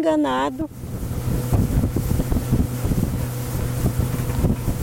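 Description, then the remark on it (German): A motorboat engine drones steadily while crossing a wide river toward the city of Belém, with a low rumble and buffeting wind noise over the water. A brief voice fragment cuts off at the very start. “nun per Motorboot auf den Weg über den breiten Fluss in die Stadt Belém, wo in diesen Tagen der Amazonasgipfel stattfindet.”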